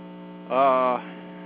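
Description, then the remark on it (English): A steady electrical hum from a power line awaiting repair, with a strong low drone and stacked buzzing harmonics, swelling louder and brighter for about half a second in the middle before settling back. “What I'm wondering is if the characteristics of the hum will change once they've fixed the line.”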